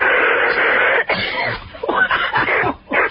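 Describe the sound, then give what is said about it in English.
A woman with a sore throat lets out a loud run of wet, hacking coughs: one long rasping burst followed by several shorter, choppy coughs in quick succession. “A wet hacking cough will bring you a 10.”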